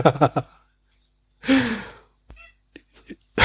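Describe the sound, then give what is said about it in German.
A single drawn-out meow from a female cat that wants something, moderately loud, sliding downward in pitch, with brief bits of human voice and small noises before and after it. “Wir hören hier doch eine Podcast-Katze.”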